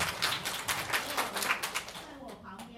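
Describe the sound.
A group claps hands together in a quick, uneven patter of bright slaps that fades after about two seconds, then a voice starts speaking.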